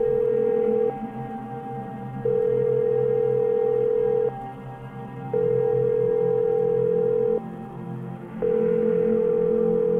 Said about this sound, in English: In the depths of the tank, I found a call box that hadn't been gutted, picked up the phone and dialed a number still scored into my Magi-trained memory.